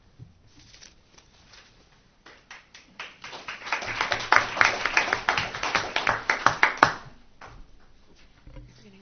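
Audience applause at a school district meeting for the principal of West Covina High School before he starts his presentation: scattered claps swell into a dense, steady round of clapping from a crowd, then taper off after several seconds.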